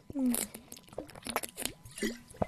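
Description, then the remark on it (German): Mouth sounds of someone sipping water: a string of small slurps, gulps and liquid clicks in quick, uneven succession, fairly quiet. “Das war eine viel zu lange Erklärung dafür, dass ich einen Schluck Wasser trinken wollte.”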